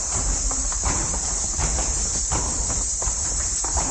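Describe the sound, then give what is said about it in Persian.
Many ankle bells tied to the feet of girls learning Kathak dance in a dance class jingle in a dense, bright shimmer while their feet stamp out a steady, rhythmic pattern of thuds, loud and continuous with no talking. “زنگوله های این پای های رقصه های هست، رقصه هایی که درسی کتک می آموزند.”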